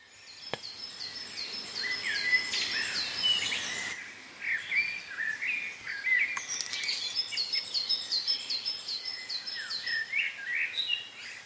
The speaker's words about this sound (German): Da kommen viele Waldvögel angeflogen und landen im Baum vor Zwinkers Häuschen. Und nun beginnt ein wunderbares Vogelkonzert.